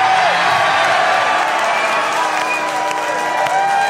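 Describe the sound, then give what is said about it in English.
A live crowd in St. Louis cheers and applauds loudly and steadily, with clapping and whoops blending into a dense roar that holds for the whole few seconds. “Dude, this crowd is fired up.”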